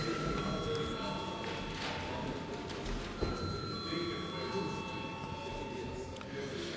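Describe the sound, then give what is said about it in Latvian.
A steady electric bell rings continuously through a parliament chamber, calling deputies to a vote, its sustained tone sitting over a low murmur of many voices and shuffling movement. “Deputāti uzstājos balsojumu, lūdzu zvanu.”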